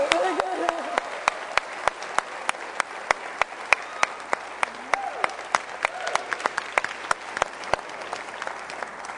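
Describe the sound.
An audience applauds steadily for several seconds, a dense wash of clapping with sharp individual claps popping out, moderately loud, with faint voices underneath at the start.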